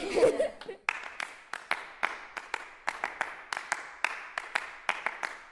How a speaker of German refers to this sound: In diesem Konzert aber herrscht verkehrte Welt. Da stehen zwei Musiker auf der Bühne und klatschen. Aber nicht einfach, wie es ihnen gefällt, sondern nach Noten.